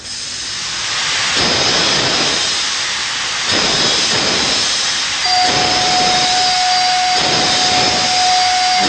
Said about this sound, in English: Even the sound of steam.